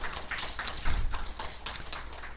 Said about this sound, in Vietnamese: Xin quý vị vỗ cho những Phật tử đó một tràng pháo tay.